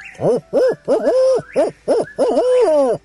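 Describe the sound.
At sunset in the Ozark hills, a human voice imitates a barred owl through cupped hands, giving a rhythmic series of about seven loud hoots with rising and falling inflections, the last ones drawn out.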